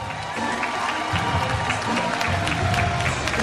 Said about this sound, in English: let's listen in for the applause for Rich Thompson